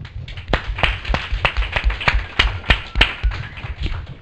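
A small audience claps, sharp, distinct hand claps overlapping in a loose, steady patter for several seconds, fairly close and moderately loud, with no voices.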